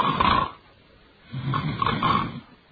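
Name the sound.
voice imitating snoring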